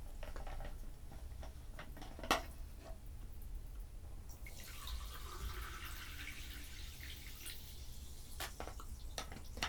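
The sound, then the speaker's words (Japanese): Someone drinks a beverage without ice, with small wet clicks and gulps followed by a sustained sloshing liquid sound, all quiet with no talking. “もうちょっと飲んでみようかな。”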